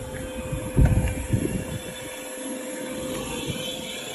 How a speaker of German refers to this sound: kommt da Wasserdampf raus aus dem Mirai. Und ich muss sagen, das ist tatsächlich ein Spektakel. Also ich habe das Auto das erste Mal im Dunkeln abgestellt. Dann hat es seine Show gemacht.